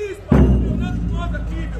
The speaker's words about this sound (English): A seemingly endless crowd of people marches slowly up the street. They're silent, except for the sound of a lone bass drum.